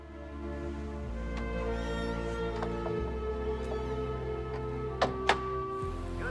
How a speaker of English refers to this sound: Connie thoughtfully closes the door as Jeff walks away.